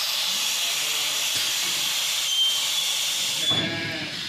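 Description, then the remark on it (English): A steady, loud pneumatic hiss of air fills the whole stretch as a sheep milking parlour gate opens for the next group of sheep to walk in, with a faint rattle and a brief shift in the hiss near the end. “The gate opens up.”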